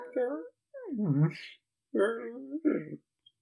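Dogs whimpering as they are pulled away from other dogs they have been dying to meet, in four short, whiny bursts with wavering, sliding pitch, moderately loud, with brief pauses between them and no talking.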